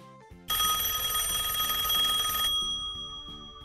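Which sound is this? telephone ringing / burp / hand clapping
telephone ringing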